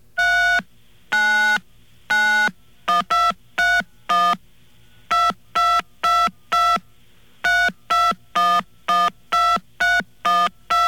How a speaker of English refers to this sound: Yeah, your timing's way off. My timing is way off, yes. Well, I never was musically inclined. But anyway, that just goes to show what kind of fun you can have with a touch-tone phone.